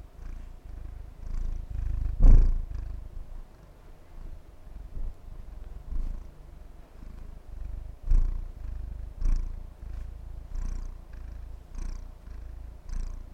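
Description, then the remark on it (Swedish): A cat named Elvis purrs into the microphone, steadily in a low, rumbling drone with a rhythmic pulse, broken by a couple of brief louder bumps and soft higher rustles. No one speaks. “Pudra i mikrofonen.”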